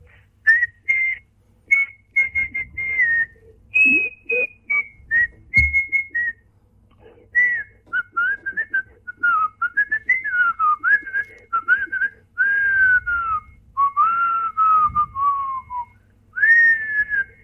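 A person whistles a lively melody alone, clear, in short bursts of notes with sliding, wavering pitch and brief pauses between phrases, over a faint low background rumble.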